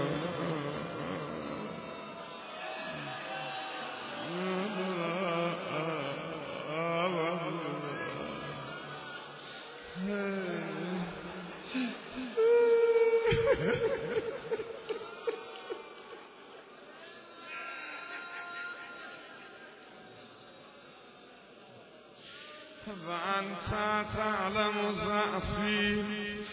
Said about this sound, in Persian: من دیگه بیشتر از این طاقت شنیدن گریه شما رو ندارم.